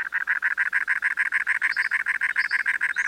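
A cactus wren calls with a long, steady run of harsh, raspy chugging notes, about five per second, mid-pitched and loud, with no voices or other sounds alongside.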